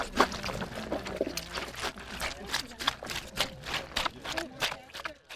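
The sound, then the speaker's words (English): Wet, squishy stomping repeats in a steady, quick rhythm as friends and family stomp freshly picked grapes into juice with their feet at Old World Winery, a traditional technique used instead of a press, with soft voices chattering in the background. “invites friends and family to help with the grape stomping after every pick”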